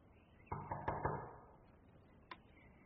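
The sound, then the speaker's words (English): Four quick, firm knocks on a door in a rapid burst, followed after a short pause by one more single knock, resonant with no voices. “Frodo, the door.”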